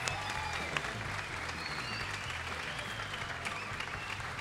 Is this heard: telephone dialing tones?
no